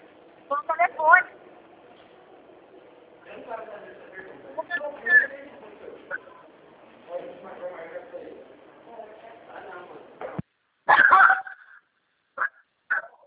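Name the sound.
dog barking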